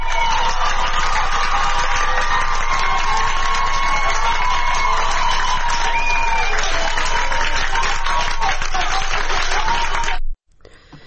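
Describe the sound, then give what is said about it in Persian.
A street crowd in Ahvaz, standing on the sidewalks, claps loudly and continuously for young women who have removed their headscarves and are dancing in the middle of the street, with shouting and cheering voices mixed into the dense wash of applause, before the sound cuts off abruptly near the end. “ویدیو دیگری از اهواز منتشر شده که ابتدا یک دختر جوان که دو دختر جوان دیگه هم بهش میپیوندن در وسط خیابان روسریاشون رو برداشتن و میرقصن و مردم در اطراف در پیاده روها وایسادن برای اونا دست میزنن که صدای این رو هم میشنوید.”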